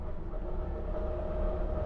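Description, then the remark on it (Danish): Steady low rumble inside a train rolling along the rails on a five-hour journey toward Lübeck, a constant droning hum with a faint tonal whine, continuous throughout with no voices. “For mig i dag tager det 5 timer i toget.”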